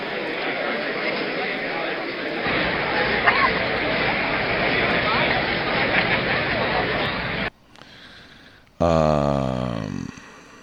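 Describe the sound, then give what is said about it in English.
A large stadium crowd roars in a dense, steady wash of cheering and chatter for about seven seconds, then cuts off, followed by a quieter pause and a loud tonal sound with sweeping pitch. “Listen to these stadium crowds.”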